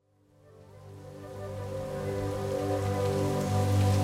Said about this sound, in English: Out of clear blue sky, a downpour.